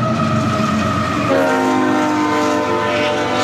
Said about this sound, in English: We have the Buda train coming through now.